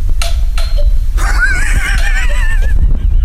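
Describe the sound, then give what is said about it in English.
A feeble, pitiful house doorbell chime, like a weak cuckoo clock: two short buzzy blips, then a thin, wobbling high tone that warbles unsteadily for about a second and a half over a low background rumble. “That's the most pitiful doorbell I've ever heard in my life. It sounds like a really weak cuckoo clock or something.”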